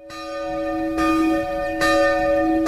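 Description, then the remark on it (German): The bell in the small bell tower of a schoolhouse at the Oschwand in the Oberaargau rings steadily, with three clear strikes about a second apart, each ringing tone lingering and overlapping the next at moderate loudness. “Die Oschwand, das sind ein paar Bauernhäuser, ein Schulhaus mit einem kleinen Glockenturm, ein Friedhof.”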